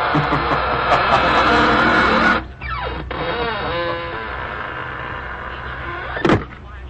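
A heavy door creaks slowly shut with a long, wavering groan of hinges, following a burst of loud rumbling noise, and ends in a sharp, solid thud.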